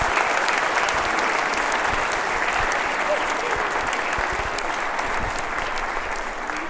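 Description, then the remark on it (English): Sustained applause from a sizable audience for the kids after their holiday-season performance, a dense steady patter of many hands clapping at an even loudness for several seconds, with a faint murmur of voices mixed in. “Can we have a round of applause for the kids?”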